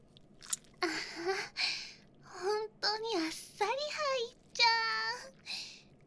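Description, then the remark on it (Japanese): Wet, smacking sucking sounds made by a mouth come in a series of irregular bursts, mixed with short high-pitched voiced tones, moderately loud over a quiet background. “チュポチュポしようね。”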